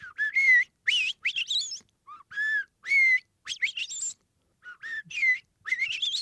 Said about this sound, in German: Unterm Strich beeindrucken so selbst einzelne Vögel mit einem erstaunlichen Lautrepertoire, zum Beispiel die Amsel. Die hat nicht nur ihren Gesang.